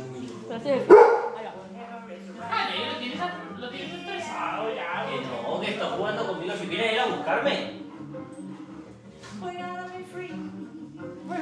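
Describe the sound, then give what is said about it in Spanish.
Two dogs bark, opening with one sharp, loud bark, then keep up a steady stream of yappy barks and whiny yips for several seconds, with a person talking over them. “Saluda para de un. ¿A quién? A los perros.”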